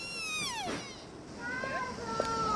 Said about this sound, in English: Some of these deer are making these strange sounds. Sounds like a baby crying. Listen to this. I didn't know deer made that kind of noise.